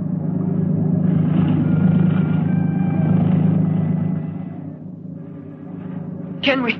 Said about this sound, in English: We must wait until the patrol boat passes.